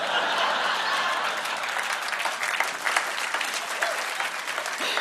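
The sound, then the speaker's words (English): Dense applause from a large crowd, hundreds of hands clapping at once in a steady, loud wash of sound that holds evenly throughout without fading. “Extroverts thrive on external stimulation like hundreds of clapping people, while introverts get their energy from time alone and are far more sensitive to stimuli like hundreds of clapping people.”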